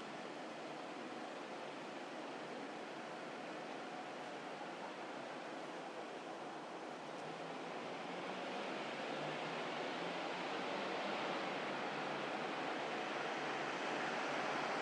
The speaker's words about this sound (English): Still quite a noisy soundscape, even at this time of night, and with very few cars on the road, relatively speaking, is what I'm trying to say.